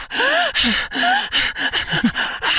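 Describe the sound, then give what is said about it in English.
A voice imitates heavy, aroused breathing during sex: a quick run of loud gasps with short moaning tones, repeating in an uneven, breathless rhythm with no words. “But part of why you feel so good was the breathing.”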